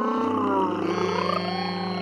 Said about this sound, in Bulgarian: Забръмча самолета и се издигна към небето.